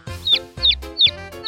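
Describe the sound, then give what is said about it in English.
A chicken clucks four times in a quick, steady rhythm, each cluck a short, bright squawk, fairly loud with no talking. “"The balloon's going to burst," Clucky Cluck clucked.”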